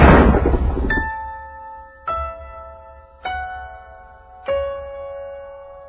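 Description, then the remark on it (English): Four bell strokes ring out about a second apart, each a bright, resonant clang with a long humming decay, after an opening burst of rough noise. The pitch shifts slightly between strikes. “Bells will be ringing. Yeah, bells are done ringing.”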